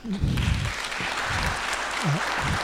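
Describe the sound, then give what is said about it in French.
Sustained audience applause, a dense wash of many hands clapping at a steady loud level for the whole stretch, with a few low murmurs and voice fragments mixed underneath. “Gardez, on va essayer d'avoir le plus de temps possible pour le débat, donc gardez les applaudissements pour la fin.”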